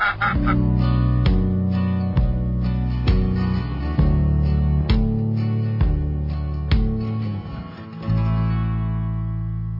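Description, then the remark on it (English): Loud duck quacking and calling in a rapid series of nasal, buzzy notes, repeating steadily for about eight seconds before one long drawn-out call trails off. No voices. “if you don't sit down, those ducks are never going to come in.”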